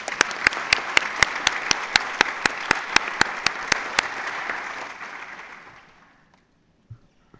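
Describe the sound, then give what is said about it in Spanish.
An audience applauds a panel for several seconds, a dense wash of clapping with one sharp, steady clap standing out on top, then the applause thins and fades into quiet. “Quiero pedirles un aplauso para este importante panel.”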